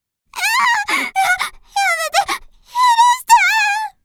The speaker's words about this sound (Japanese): 泣き声は恐怖で、一段と高くなる。